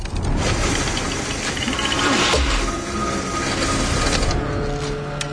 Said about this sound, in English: We're at 26 feet. You let Jason operate the drill? Yeah, he can handle it. As Jason operates the huge drill, a crack suddenly appears in the ice nearby. It spreads, heading in the direction of Jason. He is unaware and carries on drilling.